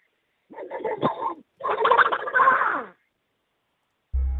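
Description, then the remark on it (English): A man does a squawking, raspy Donald Duck impression in two garbled bursts of quacky babble, then falls silent before a low buzzing tone cuts in at the end. “take away your Donald Duck impression.”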